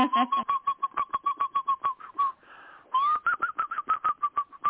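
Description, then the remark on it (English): A person whistles a canary-like song, rapid chirping trills in quick pulses, a brief softer pause in the middle, then another fast run of bright whistled chirps. “It's a canary.”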